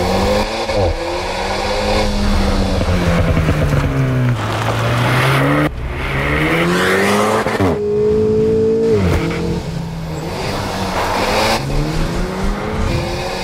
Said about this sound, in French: Entend le moteur de la nouvelle Alpine Renault sur les routes de montagne.